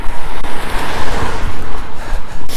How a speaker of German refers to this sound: Oh, Auto.